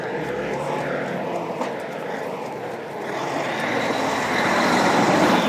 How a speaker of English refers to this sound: Just a lorry going past, I think.